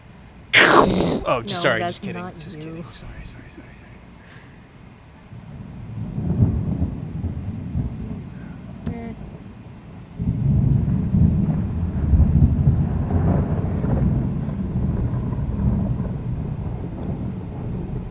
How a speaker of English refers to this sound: Wow, that's like end of Raiders of the Lost Ark thunder.